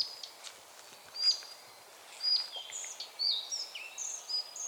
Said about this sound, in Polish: Powtórka z dzisiejszej wędrówki. Muchołówka Białoszyja.